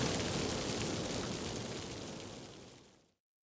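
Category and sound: nature, rain falling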